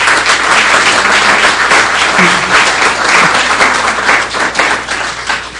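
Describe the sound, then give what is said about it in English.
Sustained audience applause at a meeting of the Commonwealth Club of California, given at the end of a program: a dense, steady wash of many hands clapping at fairly loud volume, continuing throughout without any talking. “So finally, we want to thank Daniel again and give him a round of applause for a fascinating and wonderful program.”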